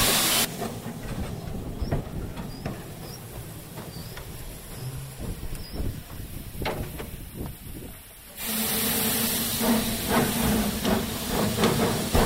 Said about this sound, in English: That's the right-hand injector picking up, delivering water into the boiler.